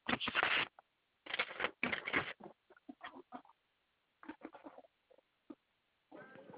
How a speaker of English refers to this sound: I'm digging in my purse for a pen or a pencil.